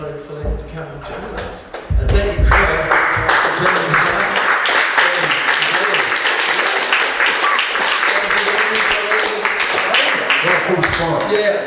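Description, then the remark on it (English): An audience at a live music show in an art gallery breaks into sustained applause, a dense, steady wash of many hands clapping that holds loud for the full length, with some voices mixed in underneath. “You got a clap along? I'll clap.”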